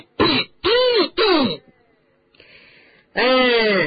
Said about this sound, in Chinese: 正在这个时候，敦斯里一副煞有介事的清了清嗓子。